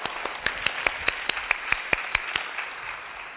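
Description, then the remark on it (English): Applause from a United Methodist audience welcoming new members: about a dozen sharp, evenly spaced claps in a quick steady rhythm stand out over a hissy wash of softer clapping, fading slightly toward the end. No one speaks. “And applaud.”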